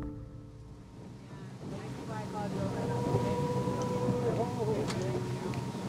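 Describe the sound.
A small motorboat's engine drones steadily as the boat is steered out onto hazy blue-gray water with people on board, rising slightly as it moves out, with water and wind noise underneath and faint, indistinct voices mixed in.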